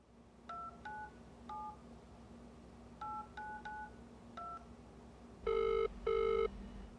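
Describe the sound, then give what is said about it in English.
Seven quick two-tone beeps of a phone number being keyed in, in two uneven groups, then two louder buzzing ring tones in a double burst over a low steady hum, as a call is placed to a former New South Wales police detective. “I made a call to John Davidson, a former New South Wales police detective and 2IC to Kevin Parsons”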